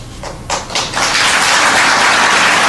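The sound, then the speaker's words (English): A few scattered claps swell within a second into steady, dense crowd applause during a speech by President Obama, a hissy wash of clapping that holds at an even, moderate level until the end, with no voices. “And that was as wild as the crowd went during the whole speech.”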